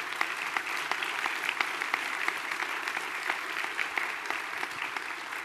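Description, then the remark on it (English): A steady round of audience applause, dense overlapping claps forming a broad, even wash of sound that holds at a constant moderate level without swelling or fading. “Let's give Brad a round of applause.”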